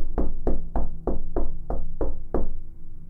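household object, knocking on a door

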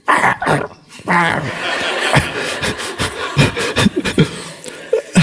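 animal, small dog barking

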